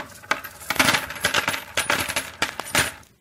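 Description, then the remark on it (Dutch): Coins jingle and clink together in a steady, bright shaking, with repeated sharp metallic chimes rising and falling over about three seconds, no voices present. “Hij liet het rinkelen om er goed mee te doen.”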